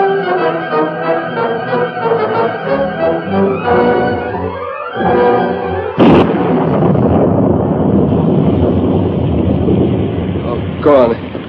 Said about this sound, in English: And here's the storm. We've got to hurry.